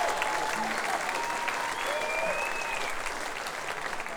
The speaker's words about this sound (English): So I'll give you an applause for you.